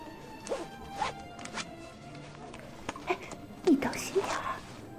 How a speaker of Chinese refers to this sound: 这么多人，你也太大胆了，居然直接把裤子拉链拉开了